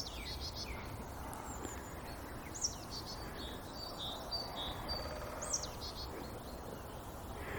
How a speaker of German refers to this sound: Ja, die Meise schimpft ein bisschen, weil ich hier rumstehe.